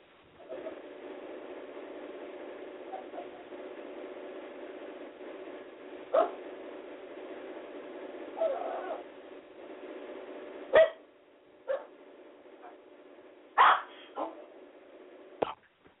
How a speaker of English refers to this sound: Dog, be quiet.